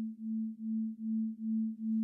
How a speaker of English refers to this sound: So binaural beats is when you listen to like a pure sine wave in two different headphones and they're slightly off, and then you get it, like, does this weird property where you get this other note in the middle, and like it becomes like a rhythm.